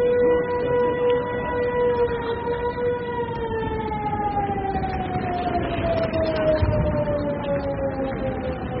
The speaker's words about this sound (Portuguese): Eu creio que a coisa que mais vai ficar nas nossas cabeças, não os ucranianos como os estrangeiros que estavam lá, acho que eram os sons, os alarmes, os sons das sirenes, porque aquilo soava em 5, 10 minutos.